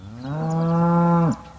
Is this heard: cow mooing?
yes